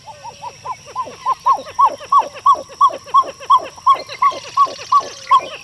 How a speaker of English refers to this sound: Does this song evoke an old jungle movie? Well, actually, we're hearing the pied-billed grebe, a common resident bird of freshwater lakes and ponds.